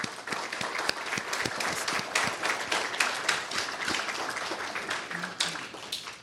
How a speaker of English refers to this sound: And I would like you to join me in just giving an applause to all of the people I have named.